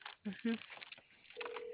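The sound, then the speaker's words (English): A couple of short telephone tones sound, followed by a steady ringback tone as a call is placed, while a voice talks faintly underneath. “I'm just trying to get him on the phone.”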